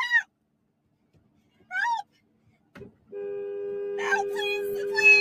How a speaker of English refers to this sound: She's slamming her hand on the horn just to get some help.